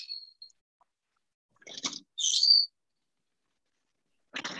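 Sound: pet birds chirping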